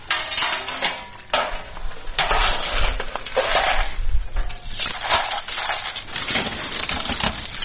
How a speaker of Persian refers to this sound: اینجا خانواده های آسیب دیده در رویداد روز گذشته شهر کابل مصرف جمع‌آوری شکسته های شیشه و وسایل خانه هایشان هستند که به اثر شدت انفجارها از بین رفتند.